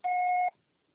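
A single steady electronic beep, about half a second long, with a strong mid-pitched tone and a fainter higher overtone, cutting off cleanly into silence, like a voicemail recording tone.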